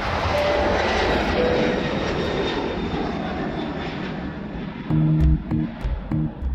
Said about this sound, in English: Please sit back, fasten your seatbelts, and prepare yourselves for takeoff. Enjoy the ride.